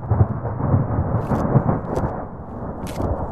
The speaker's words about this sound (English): 10,000 feet up in the Peruvian Andes, the gray skies over Copa Grande are suddenly lit by magnificent lightning, followed by a deep rumble and a light rain. It's the beginning of the rainy season, and the village's 500 residents are happy to see it.